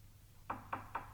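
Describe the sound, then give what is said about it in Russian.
Four crisp knocks on a door, evenly spaced and moderately loud, with short resonant thuds that stop abruptly after a quiet moment at the start. No voices. “Кажется, стучат.”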